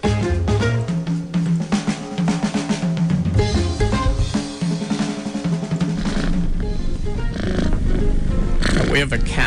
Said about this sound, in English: We'll see if we can find a cat meowing. Boy, that cat's going to purr for a long, long time.